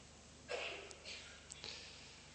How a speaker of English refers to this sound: I need a little bit more coughing at this stage now. Please, if the more coughing is available. This body is attacked by miseries at every turn. And you prove it. You have the coughing symphony.